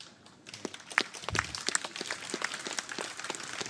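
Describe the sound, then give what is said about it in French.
An audience in Saint-Marcellin, France, breaks into applause for the town hall team's work on the Place d'Armes, many hands clapping in a dense, steady patter that swells after a quiet start and keeps going without any voices. “Cette place, je l'ai compris et les Saint-Marcellinois l'ont vécu, est l'aboutissement d'un long processus et je voudrais donc saluer le travail de toute l'équipe de la mairie qu'on peut, je pense, applaudir.”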